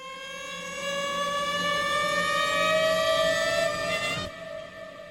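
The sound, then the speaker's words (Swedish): An air raid siren wails in Oslo, Norway, on 9 April 1940, on one sustained, slowly rising tone, loud and rich in harmonics, then cuts off abruptly near the end, leaving a faint low rumble. “Ingen har undgått att höra flyglarmets klagande tjut som hörs i norska städer längs hela kusten.”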